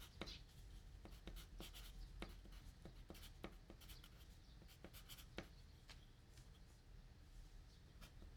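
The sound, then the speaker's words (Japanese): A pen scratches across paper with quick irregular strokes and small taps as someone fills in their name, age and desired course on a form at Cure Foot (キュアフット), a foot care shop, over a faint low background hum. “それではまず、こちらの方にお名前と年齢、ご希望のコースを記入していただけますでしょうか？”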